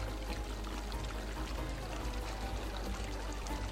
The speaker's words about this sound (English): That is thanks to the Arhelene. It is a magical stone, unearthed centuries ago by the original Lacertaine nomads. It creates a steady stream of water, constantly.